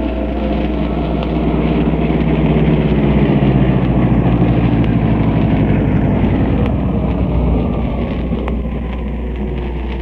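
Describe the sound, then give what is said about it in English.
A car engine runs steadily and loudly for the whole stretch, a continuous rumble with a slight rise and fall in pitch and a wind-like hiss over it. No one speaks. “Tell them someone's stolen the car.”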